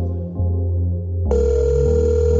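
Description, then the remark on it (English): A phone's electronic ringtone plays a steady tonal melody, shifting partway through to a brighter, buzzier and slightly louder phrase. It is clear, with no voices. “Answer your phone, no man.”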